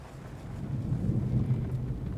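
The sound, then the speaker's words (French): A thunderstorm with rain and hail roars all around, a steady deep rumble with a soft hiss on top that swells slightly through the middle and then holds, enveloping, with no one speaking. “Là, on est dans le nuage, dans la pluie, dans la grêle, dans l'orage.”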